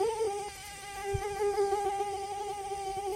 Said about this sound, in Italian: Selezionai il comando giusto sulla app e nel giro di pochi secondi ci raggiunse ronzando un drone della gara.